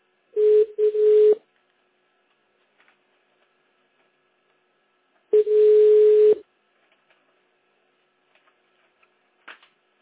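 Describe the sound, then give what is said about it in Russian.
A steady, mid-pitched telephone busy tone sounds in a few loud bursts, two short beeps and then a longer one after a pause, followed by near silence with a few faint clicks. “The subscriber you have dialed is busy now.”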